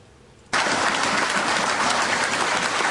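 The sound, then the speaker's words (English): After half a second of quiet, loud applause from a large audience of white Republicans bursts in and carries on steadily, a dense, even wash of many hands clapping with no voices on top. “Listen to them white Republicans clap.”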